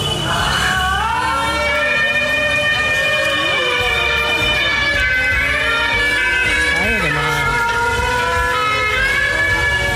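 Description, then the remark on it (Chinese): Dense, overlapping car horns blare continuously on a crowded street, sustained tones and honks layered over traffic rumble, with a person briefly exclaiming at the start. “非常神经衰弱，走在街上各种喇叭逼， 对对，他那个车好可怕， 对，让我们来听一听。”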